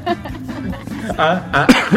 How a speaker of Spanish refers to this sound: Ok. Hasta tos me dio.